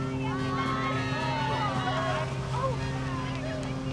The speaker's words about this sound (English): The boat's gone without them.